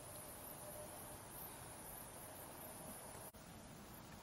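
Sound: mosquitoes buzzing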